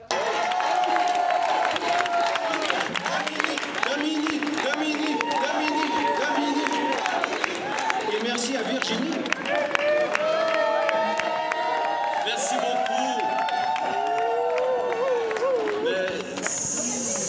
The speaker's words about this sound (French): C'est pas moi qu'il faut applaudir, c'est vous.